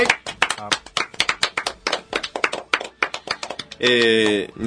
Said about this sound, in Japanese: 知ってる就活は働くを考えるライブトーク番組、今日で372回目でした。拍手。